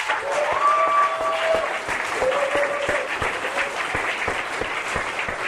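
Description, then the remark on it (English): A crowd gives the whole ClickFunnels family a big round of applause: dense, sustained clapping with sharp overlapping hand claps, a few whoops and cheers rising briefly above it, holding at an even loud level throughout. “I want to give the whole ClickFunnels family a big round of applause.”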